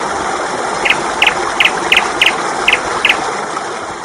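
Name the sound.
little bird chirping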